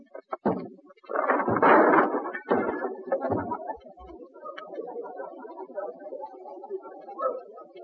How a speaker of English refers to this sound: Open that door. Open that door, I say. Oh, you will do it, eh? Well, I will break it in. Come on, Sarge, give it the work.